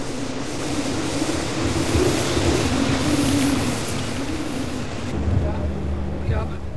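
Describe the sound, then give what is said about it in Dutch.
A loud, steady roar of hurricane wind buffets the radio ship Veronica, breaking its anchor chain and driving it toward the beach at Scheveningen on 2 April 1973, with churning water and creaking rumbles underneath, swelling slightly in the middle and again near the end. “Een beukende orkaan slaat de ankerketting van Veronica kapot.”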